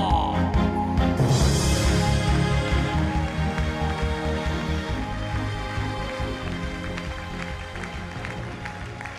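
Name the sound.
applause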